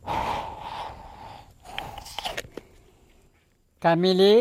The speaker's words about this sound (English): He's talking to the water. He's shaking it. He's putting it under his arm. He's breathing into the water.